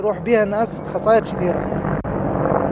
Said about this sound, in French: Deux hélicoptères Apache américains traversent le ciel au-dessus du camp. Ils volent vers Mossoul.